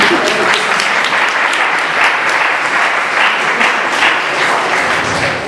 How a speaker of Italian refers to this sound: Grazie mille. Un applauso.